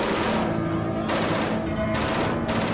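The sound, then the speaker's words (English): Bursts of rapid automatic gunfire crackle in waves, loud and dense, pausing briefly between volleys before starting up again, with no voices heard. “Stay low. We don't need a stray bullet hitting us up here.”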